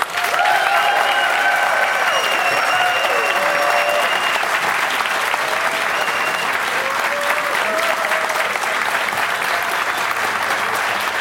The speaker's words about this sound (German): Nu kommt der Applaus für.